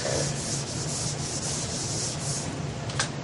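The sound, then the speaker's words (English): A whiteboard being erased: a steady, loud dry rubbing hiss with rhythmic back-and-forth swipes roughly twice a second, ending in a short squeak, with no one talking. “So we have in Windows 7, I think I can erase this.”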